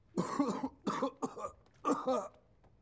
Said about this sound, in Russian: А скажите, почему вы закашлялись? Что? Когда я выбрал карточку, у вас начался кашель.